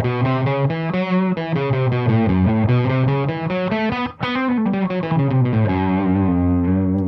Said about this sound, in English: they would often distort some of the notes or bend some of the notes around or sort of sing semitones or tones that were in between the notes. So you would get something like this instead of, you would get something like this.